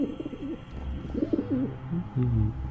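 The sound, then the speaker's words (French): Pigeons coo in low, throaty, rolling phrases, several calls overlapping, in a small town, with a steady hum of background noise underneath and no talking. “Un autre ? Décidément, c'est la fête aux pigeons dans ce bled.”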